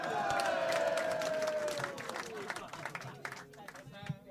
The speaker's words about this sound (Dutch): Mag ik applaus voor deze 2 vrijwilligers?